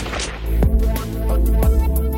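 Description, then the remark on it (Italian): Two sharp gunshot-like bangs about a second apart, each loud and sudden with a brief booming tail, over a steady low droning background. “Ho sentito uno sparo.”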